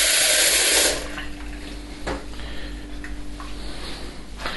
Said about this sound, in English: We come to the kitchen sink with a tap.